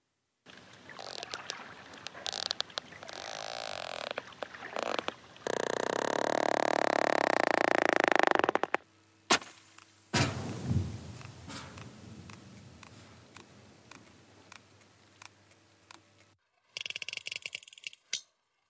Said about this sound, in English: These are the sounds of the mighty sperm whale, a fellow mammal that can dive almost a mile, hold its breath for more than an hour, and lives in these amazingly complex matriarchal societies.